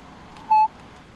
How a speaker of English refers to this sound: We have a touch tone phone that we pay extra for that.